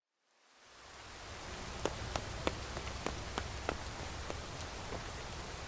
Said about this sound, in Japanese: なんじゃ、雨宿りか。軒先にいたとで濡れてしまうじゃろ。社の中へ入るがいい。